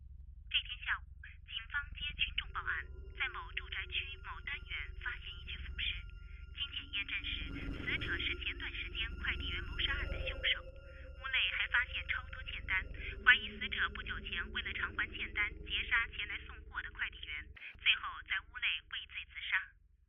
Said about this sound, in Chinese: 电话突然响了起来，他拿起听筒，对面传来沧桑冰冷的声音：